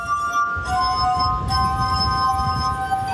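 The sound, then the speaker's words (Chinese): Glass harp music from rubbed glasses playing a Taiwanese song: several pure, sustained ringing tones hold steadily and overlap throughout, with a low rumbling murmur underneath. “用玻璃琴演奏各种各样的乐曲”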